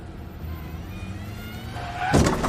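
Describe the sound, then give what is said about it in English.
A car engine rumbles steadily with a thin rising whine, then a sudden loud crunching impact bursts in near the end as Pascal hits a car that is backing up. “Pascal hits a car that backs up.”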